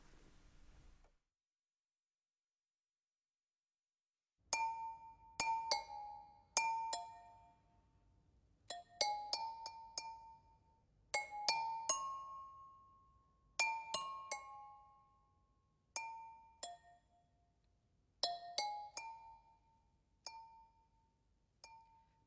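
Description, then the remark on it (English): Clay flower pots struck as percussion by Evelyn Glennie, accompanying a pseudo-Homeric hymn to the Earth Mother, ringing out in bright, bell-like tones of several pitches. Quick clusters of strikes come in an irregular rhythm, each note decaying briefly. No one speaks. “And what could be more suitable as an accompaniment to a hymn to the Earth Mother than the clay of flower pots?”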